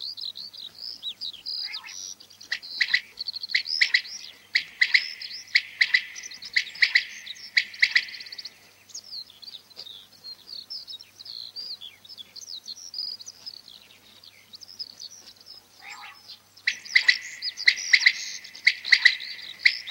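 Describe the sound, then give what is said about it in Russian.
A common quail calls nearby from an open field amid a busy wash of high chirping birdsong, steady and moderately loud throughout, briefly thinning in the middle before picking up again. No one speaks. “Рядом в поле кричит перепел.”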